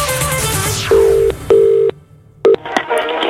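A telephone call being placed: a sweeping tone gives way to short, steady electronic ring tones pulsing in a broken rhythm, then clicks as the line connects. Clear, with nobody talking.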